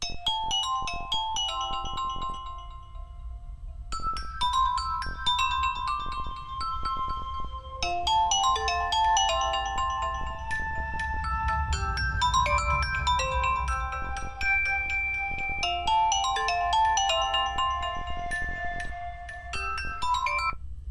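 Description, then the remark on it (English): A Microsoft Lumia default ringtone plays on its own as a work phone rings, a bright melodic electronic tune of quick chiming notes repeating in phrases for about twenty seconds, fairly loud and steady, with no one speaking. “That piece of music is that's the sound of my work phone ringing.”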